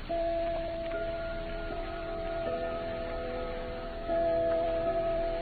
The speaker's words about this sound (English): No, but your clock strikes the Westminster chime.